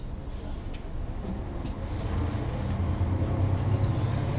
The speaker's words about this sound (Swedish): Jag sätter mig på bussen mot Lund.